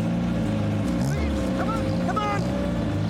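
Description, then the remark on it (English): The engine of the poachers' white Jeep drones loudly and steadily as it is driven onto a small boat at a wooden jetty by a river, its low rumble continuous throughout, with brief high squeaks and clatter rising over it. “The Jeep's driven onto the boat.”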